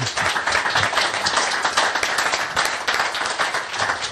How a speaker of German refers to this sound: Aber es gibt auch noch mehr Leute, obwohl das hat eigentlich auch nochmal einen Applaus verdient, finde ich, oder?